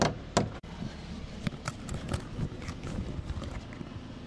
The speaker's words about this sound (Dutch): En dat pasje, kijk, je hebt een pasje. Ja. Hou je hiervoor. Pink, groen. En dan gaat de deur open.